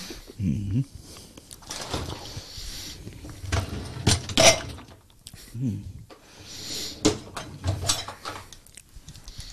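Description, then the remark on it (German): Dishes clink and clatter in irregular, sharp bursts as a dishwasher is unloaded, with a few louder knocks among them and a voice murmuring at times. “Die Spülmaschine leer räumen.”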